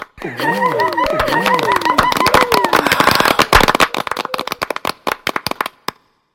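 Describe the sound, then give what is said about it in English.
A crowd shrieks and cheers with wavering, rising and falling pitch over dense clapping, coming from every side of a room; the voices fade after a few seconds, leaving scattered claps that thin out and stop. “Screams and applause arose from every side of the room.”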